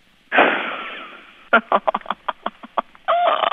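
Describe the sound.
A loud, high warrior battle-cry yell, Zena's signature yell: one long sustained wail, then a rapid string of sharp, chopped ululating bursts, ending in another strong held cry. A single voice performs it with no talking.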